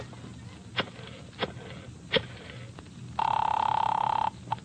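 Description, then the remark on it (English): A few soft clicks and taps, then a single long, buzzing ring lasting about a second from a wall-mounted telephone, clear over a low background hum, with no talking. “May I use your phone? Yeah, right here on the wall.”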